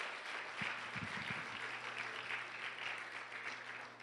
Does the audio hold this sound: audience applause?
yes